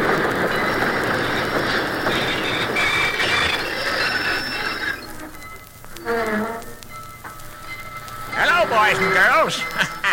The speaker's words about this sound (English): I'm a little circus train. Oh, I whistle loud and I whistle long as I'm rolling merrily along, right along as I'm rolling merrily along.